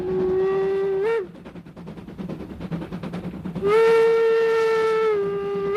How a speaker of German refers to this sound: Ein gutes halbes Jahr später fährt der erste Zug aus der Kaserne Dossin ins Vernichtungslager Auschwitz-Birkenau.